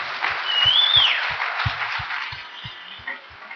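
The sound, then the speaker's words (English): An audience applauds steadily for a woman standing up in front of people for the first time since school days, a dense wash of clapping with a brief whistle early on and a steady beat of low thumps underneath, tapering slightly toward the end. “So please, let's just give her a round of applause again.”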